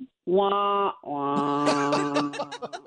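A descending 'wah wah' failure sound effect: two loud, buzzy, drawn-out tones, the second held longer and wavering lower as it trails off.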